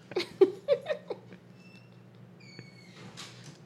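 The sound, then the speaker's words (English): A few quick knocks and clatters of a pantry door opening, followed by faint high motor whines as a small robot, Robolore Hall, a robotic version of pianist Laura Hall, rolls out, over a steady low hum. “Oh, wait, we have to open up the pantry because Robolore Hall's in there.”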